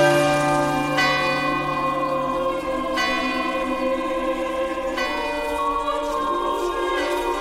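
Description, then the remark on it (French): Bells ring from a railway chapel car at a construction site, calling the faithful from the villages to join engineers, foremen, mechanics and track layers for mass. Strikes land about every two seconds, leaving rich, overlapping tones that hum and linger between each stroke. Full, with no voices. “Les cloches appellent les fidèles des villages quand il y en a pour qu'ils se joignent aux ingénieurs, contremaîtres, mécaniciens, poseurs de rails.”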